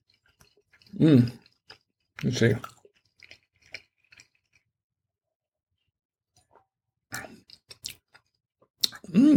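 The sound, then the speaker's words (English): Someone chews a bite of pizza while pairing it with wine, with soft, irregular crunchy clicks and smacks between a few short spoken words; the chewing sounds are faint and scattered. “And let's give it a taste here. And it's a very good pizza, by the way.”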